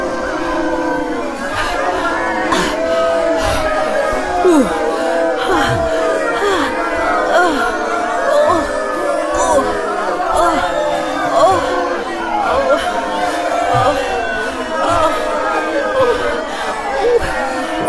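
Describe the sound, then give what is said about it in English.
A large, growing crowd chatters steadily, a dense wash of overlapping voices with occasional shouts and bits of laughter rising out of the constant murmur, loud and unbroken throughout. “The crowd is getting larger.”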